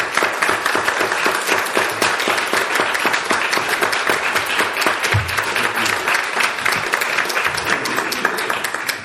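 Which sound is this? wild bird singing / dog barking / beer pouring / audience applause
audience applause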